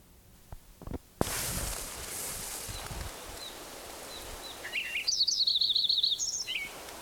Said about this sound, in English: Metcalf Creek, 7,300 feet, San Bernardino Mountains, San Bernardino County, California, continued. June 2nd, 1989, Lincoln Sparrow, number 5, continued.